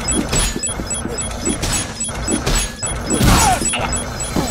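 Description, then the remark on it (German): A video game crate is thrown and smashes with a loud crunching crash, standing out from a busy bed of game music and repeated electronic effects. “Der hat einen Kasten geworfen.”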